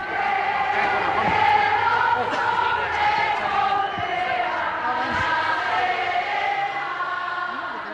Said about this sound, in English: And we actually hear crowds of women protesters singing the Ode to Joy, the Himno a la Alegría.